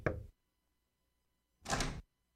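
Two soft, hesitant knocks on a wooden front door early on a Saturday, each a brief muffled thud spaced over a second apart, with nothing else in between and no voices.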